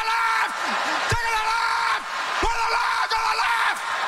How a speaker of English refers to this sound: And then eight women scream at the top of their lungs for 2 minutes straight.